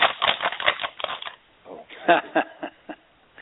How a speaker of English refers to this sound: Silence reigned as the only sound heard was the rustling of the pages of the letter.